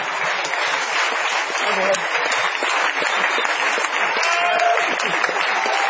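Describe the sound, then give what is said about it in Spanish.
Sustained applause from an audience for Luis Piedrahíta, dense and steady clapping throughout, with a faint murmur of voices mixed underneath. “Bueno, aplaudamos a papá.”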